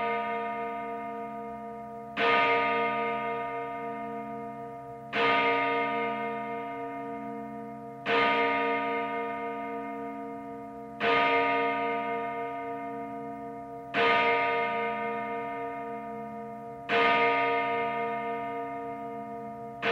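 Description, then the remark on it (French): A church bell strikes midnight in slow, steady strokes about three seconds apart, each loud, resonant clang ringing out and fading into the next, with no voices present. “Quand la cloche eut sonné minuit”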